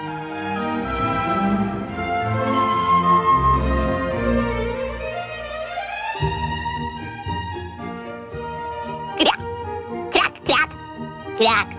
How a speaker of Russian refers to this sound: Кряк-кряк-кряк. Слышите? А знаете, кто это крякает? Это крякает знаменитый утенок Тим.